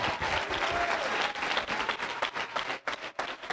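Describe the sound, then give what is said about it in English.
A church audience claps hands in praise during a sermon, sustained, dense and loud applause with faint voices mixed in before the clapping thins out near the end. “Clap your hands unto Him.”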